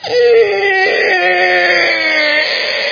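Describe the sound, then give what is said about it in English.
Children whine and cry without letup, their high, wavering wails sliding up and down in pitch and overlapping loudly for the whole stretch, with no talking. “It's hard to have nice thoughts about anybody, especially my own children.”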